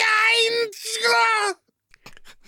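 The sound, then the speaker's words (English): A loud, strained wailing yell from a human voice, held in two long, high-pitched bursts with a brief catch between them, followed by a moment of quiet and then soft talking. “That was the most German yell I have ever heard.”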